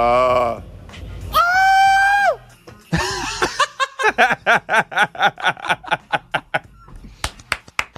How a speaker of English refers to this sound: I know you love the screams and the... We do have a lot of random screams on the board.